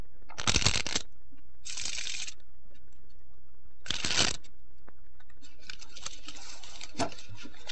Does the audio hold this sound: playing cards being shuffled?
yes